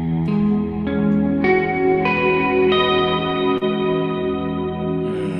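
An electric guitar chord, played with the low E string open, the index finger across the 11th fret on the other strings and the middle finger on the B string at the 12th fret, strummed again and again at a steady, unhurried pace, each strike blurring into the next under heavy, washy reverb, with no one talking.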